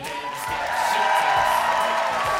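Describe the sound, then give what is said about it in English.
A live audience at the Superfest cheers and whoops in a dense, steady roar, with high-pitched shouts and a sustained whistle-like tone riding over the crowd noise throughout. “You've been a great crowd.”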